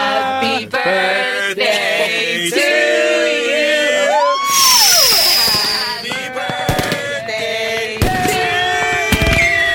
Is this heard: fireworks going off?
yes